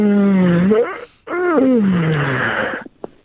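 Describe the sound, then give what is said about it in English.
A person gives two long, groaning yawns one after the other, each a drawn-out voiced moan with a gliding pitch that sinks low before trailing off into a breathy exhale. “I'm surprised you're yawning all the time.”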